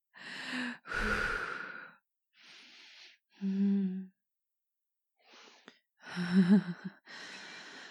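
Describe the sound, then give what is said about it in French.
Heavy, ragged breathing: a string of loud exhales and sighing gasps, some voiced, coming in uneven bursts with short pauses as someone catches their breath. “Rapidement, pendant que je reprends ma respiration.”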